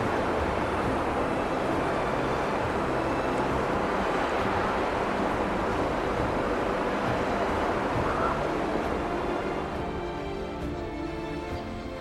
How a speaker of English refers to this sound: At Marin Hot Springs, waterfalls of mineral-rich water crash from the cliffs at temperatures reaching 63 degrees. Turning a canyon of stone into a living furnace, steam curls through the dry air like the breath of something ancient.